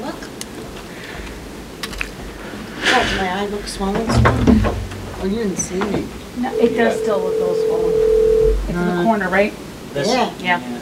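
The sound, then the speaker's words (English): A single steady ringback tone hums for about two seconds on an outgoing phone call to counsel during a meeting's executive session, partly under people talking, with a few clattering knocks earlier on. “We're going to make a phone call.”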